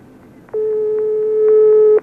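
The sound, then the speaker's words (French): A single long, steady ringback tone, the first ring of a telephone call placed to Maurine in the Cantal, France, loud, lasting about a second and a half, with faint line noise and soft clicks around it and no voices. “Première sonnerie.”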